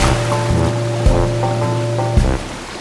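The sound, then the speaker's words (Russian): A boat's low, steady engine drone with washing water noise, two brief louder surges of splashing as it moves off across the waves; no voices. “Ну, это можно. Тогда поехали. У меня и так уже лодка волшебная состоялась.”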